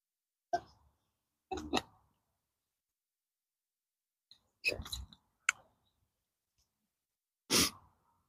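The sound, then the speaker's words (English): A zipper on one layer of clothing is tugged open in several short, raspy bursts with pauses between them, as warmth from the sun builds up, with no one speaking. “Open a zipper on one layer here because the solar gain is beginning to build up.”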